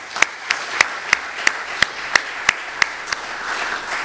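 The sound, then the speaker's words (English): Applause for the youth who gave testimonies. The clapping keeps a steady, even rhythm: about a dozen sharp, crisp claps spaced roughly three per second over a low background hiss, with no one talking. “Why don't we go ahead and take a moment to give a round of applause for all of our youth.”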